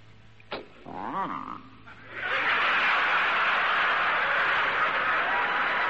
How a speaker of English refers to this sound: It's a cold morning. You go out to your car. You climb into the car, get the keys out. Here is that unforgettable sound, or unforgivable sound.